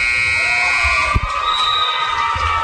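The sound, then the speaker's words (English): A loud, steady end-of-game buzzer blares continuously in a basketball arena at the close of the Whittemore Prescott Cardinals versus Augray Sims Wolverines game, after a blocked three-pointer and rebound, its harsh tone ringing out above a murmuring crowd with a brief thump partway through. “Three-pointer blocked by Jones. Rebound Howie at the buzzer.”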